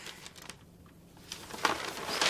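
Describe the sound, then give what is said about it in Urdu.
Fairly quiet paper rustling and crinkling in short irregular bursts, as a large paper map of the world is handled and unfolded, growing louder and busier toward the end, with no one speaking. “یہ کیا ہے؟ کاغذ ہے. نہیں بیٹا یہ دنیا کا نقشہ ہے, کرہ زمین.”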